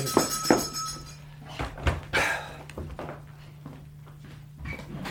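A door is opened for a visitor, Dr. James, with a few wooden clunks and a latch rattle spread over several seconds, followed by quieter shuffling against a faint, steady low hum.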